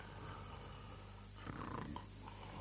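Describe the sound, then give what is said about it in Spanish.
Heavy, rumbling snoring breaths of a sleeping wolf with a swollen belly, lying in the shade of a tree against its trunk and digesting heavily, steady, with a louder, rougher exhale swelling up partway through; no one speaks. “Se notaba por la respiración que estaba haciendo una digestión muy difícil y pesada.”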